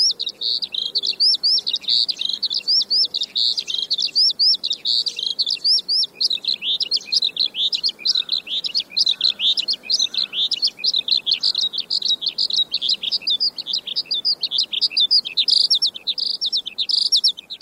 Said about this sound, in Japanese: しかし、春のヒバリはあまりに高いところでさえずるので、首が痛くなるほど空を見上げていてもなかなか見つかりません。地面に降りれば、ヒバリは土の色に紛れてしまいます。声はすれども姿は見えず、ヒバリはまさにそんな鳥です。